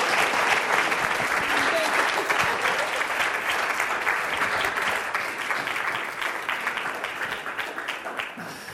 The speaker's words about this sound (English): Well, ladies, thank you so much for sharing. We really appreciate it. Why don't you guys give them a big round of applause?